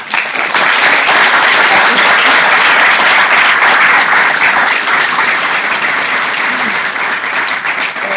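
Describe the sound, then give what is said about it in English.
Sustained applause from an audience at a mayoral candidates' forum, applauding the candidates; many hands clapping in a dense, steady wash that stays loud throughout with no speech heard. “A big round of applause to our candidates, one of whom will be the mayor.”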